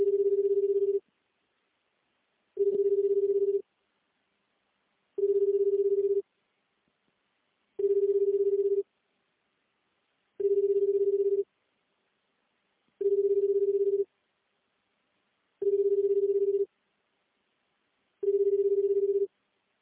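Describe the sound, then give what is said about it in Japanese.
A phone line rings out over and over, eight steady low-pitched tones about a second long, each followed by a short silence, with no one picking up and no voices. “ただいま電話に出ることができません。”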